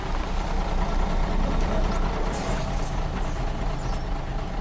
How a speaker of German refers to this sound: Mein Bus ist da. Ich muss los. Nee, das ist der falsche.